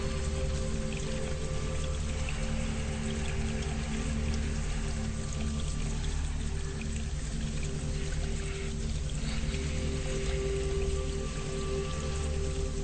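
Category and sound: nature, flowing stream water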